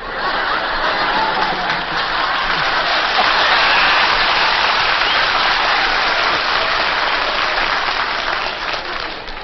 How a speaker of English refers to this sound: Boy, there was a lot of applause by husbands here then.